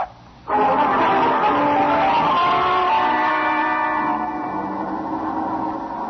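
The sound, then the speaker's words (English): After a brief quiet moment, car tires suddenly let out a loud, sustained screech that holds for several seconds before easing slightly, with a rumbling engine underneath. “Look out, that truck!”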